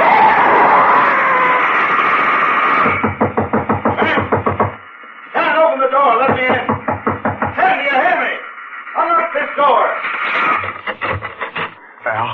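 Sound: knocking on a door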